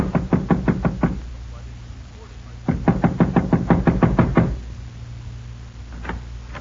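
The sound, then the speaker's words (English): Two bursts of rapid, loud knocking on a house's front door by an unexpected caller, the sheriff: about six quick raps, a pause, then a longer run of roughly ten more, over a steady low hum. “Mullins was feeling mighty fine about 2 hours later when there was another knock on the front door.”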